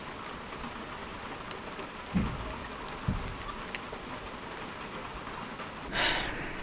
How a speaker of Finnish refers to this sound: Vaikea sanoa, yöllä alkoi sataa ja kello on nyt siis, mitä se nyt lienee, aamupäivän tunteja ja satanut koko yön tasaisesti. Ei mikään kova sade